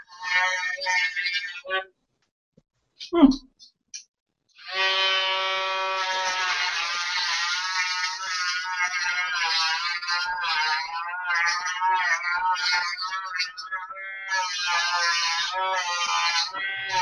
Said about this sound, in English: it's going to be somewhat noisy because it's a Dremel